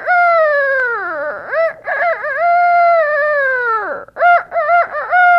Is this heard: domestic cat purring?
no